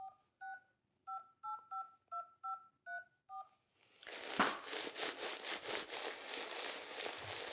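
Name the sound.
telephone being dialed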